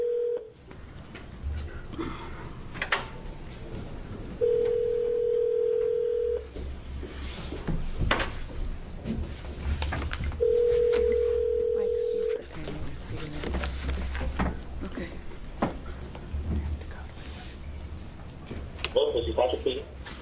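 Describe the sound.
A phone call placed during a hearing of the Oregon State Legislature's House Transportation Economic Development Committee rings out over a speaker: two long, steady ringback tones a few seconds apart, preceded by a brief dial blip, with faint murmur and shuffling underneath.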